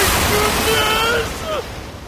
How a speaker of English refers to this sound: The waves are crashing around us!